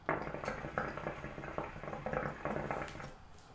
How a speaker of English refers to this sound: Give me one second. I had to hit my hookah.